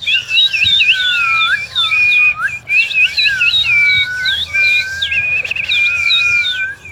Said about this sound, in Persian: بلبل از این شاخه به آن شاخه میپرد و آواز میخواند، چهچهه میزند.